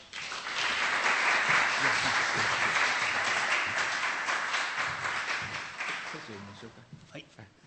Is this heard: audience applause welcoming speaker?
yes